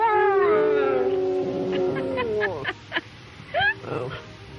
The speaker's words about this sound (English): This was a man who could get his dog to sing. Come on, sing for me.